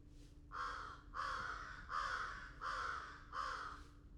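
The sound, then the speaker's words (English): An American crow in a campground gives five soft, hoarse caws in a steady, evenly spaced series over a low, constant background hum. “But the beginning of the track, there was a little soft vocalization, and that was a crow, American crow.”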